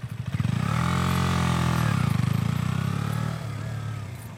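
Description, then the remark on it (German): A motorcycle engine rumbles loudly as the bike rolls up, its pitch sliding lower as it slows and settles into a steady idle once it comes to a stop. “Na, du hast das Problem gehabt, du hast beim Ranfahren in Lenker nach rechts gezogen und wolltest aber den linken Fuß absetzen.”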